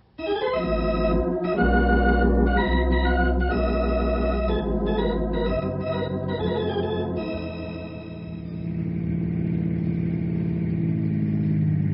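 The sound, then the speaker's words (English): A car engine runs steadily, its low droning hum shifting through gear changes before settling into a smoother cruise. No voices are heard. “Let's get in the car.”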